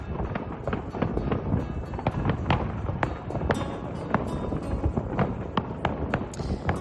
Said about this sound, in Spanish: Así acababa anoche la Feria de Abril 2026 con esos fuegos artificiales.